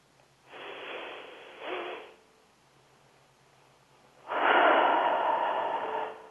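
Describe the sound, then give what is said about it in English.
Two long, airy deep breaths in a guided relaxation exercise: a slow inhale of about a second and a half, a quiet pause, then a fuller, louder exhale of about two seconds. No one speaks. “Now just keep breathing in and out quietly, slowly, and concentrate on your breath as it goes in”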